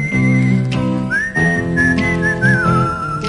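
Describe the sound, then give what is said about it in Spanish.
A clear, bright whistled melody in a song glides and bends between notes over a steady instrumental backing, loud, with no voices. “El silbido, ¿no?”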